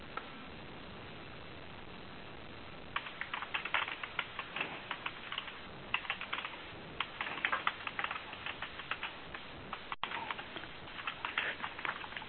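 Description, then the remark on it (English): Rapid, irregular clicking of keys on computer keyboards as several people type in a meeting chat, starting after a quiet few seconds and continuing in bursts over a faint background hiss, moderately quiet. “I was just noting that there was plenty of people typing”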